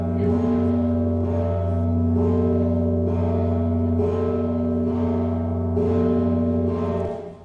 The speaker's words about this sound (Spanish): Esa forma de tocar es exclusivamente mexicana, debajo de la campana.